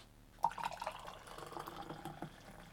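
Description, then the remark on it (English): Hot water from a just-boiled kettle pours into a cup for coffee, with milk already added, a steady trickling, splashing stream that starts abruptly and continues, with brief bright drips near the start. “And get the hot water in.”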